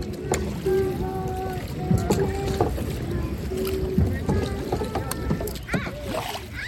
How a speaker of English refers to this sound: After about an hour or so of rowing up and down the river singing, the sun begins to set, and we make our way back to shore.